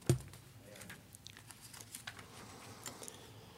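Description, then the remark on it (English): Soft crinkling of a sheet of paper being handled, beginning with one sharper crackle, then a scatter of light rustles and crisp ticks over a few seconds. No voices. “I do have on this paper a prophecy of that from the 12th chapter of Revelation.”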